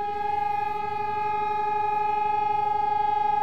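memorial siren sounding

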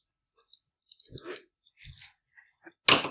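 dice being rolled

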